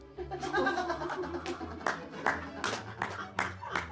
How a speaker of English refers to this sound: I love that no one's laughing, but everyone's clapping. It's like, that's so bad.